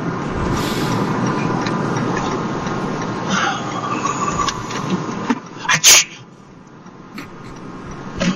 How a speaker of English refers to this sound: Bless you.